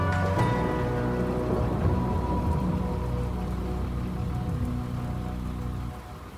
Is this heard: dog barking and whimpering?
no